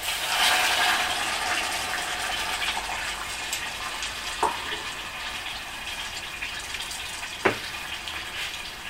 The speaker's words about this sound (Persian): من آب رو اضافه میکنم به مایه.